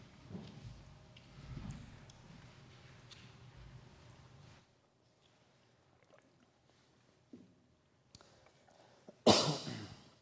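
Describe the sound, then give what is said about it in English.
A single sharp cough from a preacher bursts out near the end after several seconds of near silence, preceded by low, muffled rumbling and shuffling. No one speaks. “I'm going to try not to cough.”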